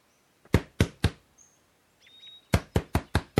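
Two bursts of sharp knocks on the wooden door of a village house with its door and windows shut tight, three evenly spaced raps, a short pause with faint birdsong, then five more quick raps, clear with no one speaking.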